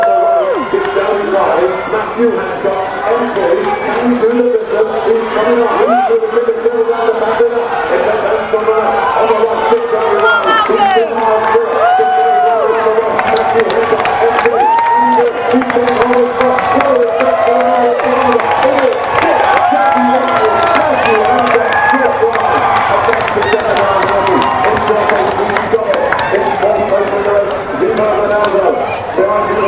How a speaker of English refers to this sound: Here they come down towards the last 2.5 miles. Get ready for the big cheer.